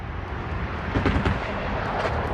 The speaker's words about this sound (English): San Francisco is still cool. It was Fleet Week. I saw one airplane fly over.